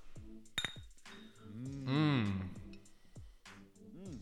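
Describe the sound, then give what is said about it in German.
Two people toast and drink beer from glasses at the same time: a bright glass clink near the start, then quiet drinking sounds and drawn-out voiced sighs. “Ich glaube, wir haben den Fehler gemacht, mal wieder gleichzeitig getrunken.”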